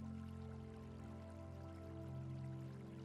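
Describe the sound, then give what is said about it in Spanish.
Steady, gentle flowing water from a stone fountain in a large garden, a soft continuous trickle and splash, heard with a low sustained tonal hum underneath throughout. “Hay una bonita fuente de piedra que emana agua, emitiendo un sonido muy agradable y relajante.”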